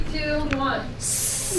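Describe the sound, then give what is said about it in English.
Brief voiced sounds from students during a class give way to a loud, sustained group hiss, their mouths imitating a snake, lasting under a second. “Will you guys do your best to make a snake noise?”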